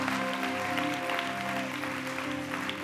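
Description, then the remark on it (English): Steady, dense applause from a crowd clapping for the Lord, a continuous crackle of many hands clapping at an even loudness, with a sustained musical tone humming underneath. “Give the Lord a clap.”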